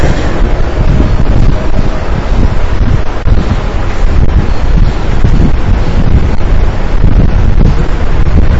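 Heavy rain pours down in a loud, unbroken hiss and roar that stays steady for the whole stretch, with no voices or other sounds breaking through.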